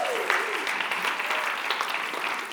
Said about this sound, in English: Let's give the band another round of applause, yeah?